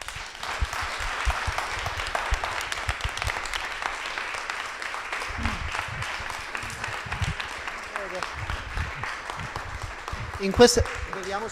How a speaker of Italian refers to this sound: In queste situazioni mi piacerebbe essere quegli animatori bravi che chiamano su, ancora applauso, capito, quelle robe lì.